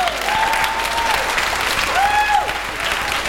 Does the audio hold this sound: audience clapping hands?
yes